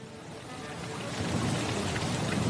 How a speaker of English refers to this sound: Suddenly, heavy rain started falling.